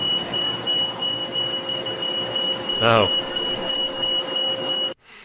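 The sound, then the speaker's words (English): A bus at Epcot, Disney, kneels so passengers can step on and off more easily. It sounds its warning, a steady high-pitched electronic beeping tone over a low engine rumble, with a brief spoken exclamation midway before the tone cuts off near the end. “Yep, it is the bus kneeling.”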